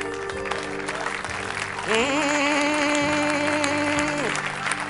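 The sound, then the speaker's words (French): Steady, dense audience applause runs throughout, and about midway a held, slightly wavering musical tone rises over the clapping for a couple of seconds before fading. “Non, je n'ai pas dit d'applaudir quelqu'un, j'ai dit d'acclamer.”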